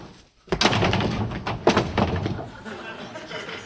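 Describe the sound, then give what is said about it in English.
A loud thud of a door slamming shut, followed by a second heavy knock-like impact, with muffled voices and rustling continuing underneath. “Open this door this moment.”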